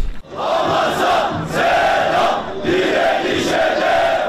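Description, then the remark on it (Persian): A large crowd of protesters at an anti-Israel demonstration in Istanbul, Turkey, chants loudly in unison, repeating the same short rallying phrase about once a second in a steady, forceful rhythm. “در شهر استانبول ترکیه هم تظاهرات ضد اسرائیلی برگزار شد.”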